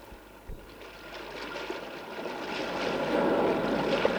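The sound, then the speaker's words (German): Steady rushing water flows beneath a broad, swelling wash of noise as a raft of ship planks tied together with cords drifts down a river into a mountain, with a brief low knock near the start, growing gradually louder as the current carries along, with no voices. “Mit Schnüren banden wir einige der herumliegenden Schiffsplanken zu einem Floß zusammen, schoben es in den Fluss und los ging die Fahrt in den Berg hinein.”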